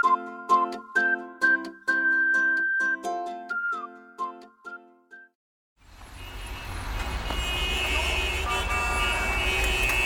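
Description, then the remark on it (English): A modern four-wheeled car's horn honks in a quick series of short toots, then after a brief pause a loud, steady rush of engine and road noise takes over as the car goes fast. No one speaks. “Well, this is a modern car. It has four wheels. It goes by itself. It goes real fast.”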